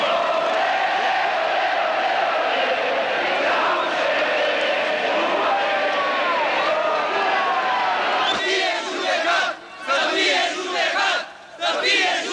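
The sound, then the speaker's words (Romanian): A huge protest crowd of over 100,000 demonstrators in front of the Romanian Communist Party Central Committee building roars continuously, with massed shouting, chanted anti-Ceaușescu slogans and booing of Nicolae Ceaușescu as he tries to speak from the balcony. The din stays loud and dense throughout, turning choppier and more rhythmic toward the end. “Se scandează lozinci anticeaușiste, iar acesta este huiduit.”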